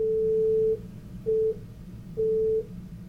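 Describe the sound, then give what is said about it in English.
Three steady electronic beeps at a single mid pitch, the first long, the second short, the third medium, separated by brief gaps over a low background hum; a beep sequence played to rhesus monkeys in an experiment on number. “In one experiment, she played a sequence of beeps to rhesus monkeys.”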